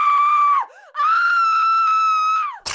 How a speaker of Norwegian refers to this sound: Få en venn med Tourettes syndrom som kommer inn og skriker ut pensum.